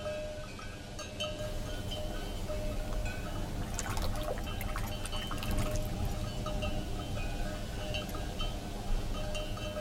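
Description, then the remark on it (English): Fresh drinking water pours steadily into a container for close to ten seconds, a continuous liquid rush with a few light clinks and splashes around the middle. No one speaks. “But come, drink fresh water.”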